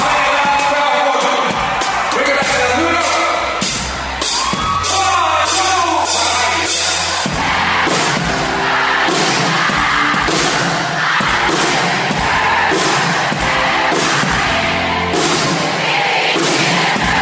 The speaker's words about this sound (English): It's like 20,000 people just singing loud.